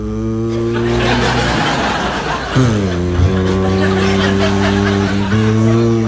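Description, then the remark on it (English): A man vocally imitates the engine of his father's 1952 Chevy car, a steady low droning hum with sputtering, chugging texture and a couple of pitch dips like shifting, loud for about six seconds. “Now, my father had a 52 Chevy. It was the uncoolest sounding car in the world. My father's car went...”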